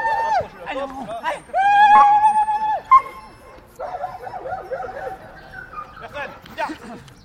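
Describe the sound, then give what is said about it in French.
A dog barks and yelps excitedly, with a drawn-out high whine in between, loud, while voices murmur faintly in the background, as the dog is sent rushing across a lawn framed by stands, with swings and slides, toward about ten stand-in volunteers. “Avec le chien.”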